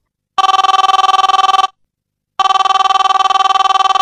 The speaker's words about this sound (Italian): All'improvviso, da una delle tasche della Sariana, il cellulare si mise inopportunamente a ruggire.